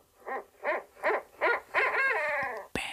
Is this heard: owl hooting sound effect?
yes